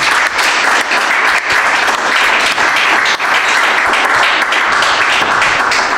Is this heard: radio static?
no